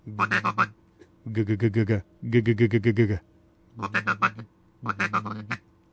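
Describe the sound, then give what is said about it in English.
A duck call blown in a soft feeding murmur: five short bursts of rapid, buzzy clucks with brief pauses between, fairly quiet, with no talking. “And to do the feeding murmur, just like this. It's very quiet, not loud.”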